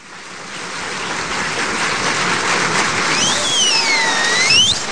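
Steady rushing water, like a stream, flows continuously at a moderate, even level, with a few thin high chirps or whistles rising over it toward the end.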